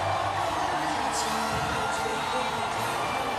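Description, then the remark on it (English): Dense, steady crowd noise from a parade in Houston at street level: a continuous wash of many voices with occasional whoops and cheers rising out of the din, loud throughout. “So you've got the parade noise on one side, you've got the music on the other. Here's street level now.”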